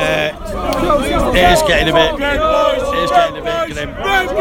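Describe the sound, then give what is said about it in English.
A large football crowd, many wearing scarves, fills the air with dense, overlapping chatter, many voices murmuring and calling out at once in a steady, loud hubbub with no clear cheering or chanting. “I reckon 80% of this crowd's called Rupert.”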